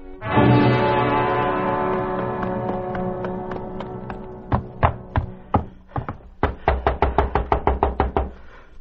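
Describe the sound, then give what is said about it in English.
Loud knocking on a door in Skin Fork, West Virginia, in June 1950, starting as scattered single raps and building into a rapid, insistent pounding series, with a sustained droning tone fading out underneath at the start. “What's got into you breaking a body's door down?”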